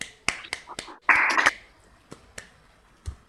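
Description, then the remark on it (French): Sparse audience applause at the end of a conference talk: a few scattered sharp claps, a brief denser flurry of clapping, then isolated claps trailing off. Fairly quiet, with no talking. “On peut vous remercier vous très, très chaleureusement et vous applaudir pour cette excellente conférence.”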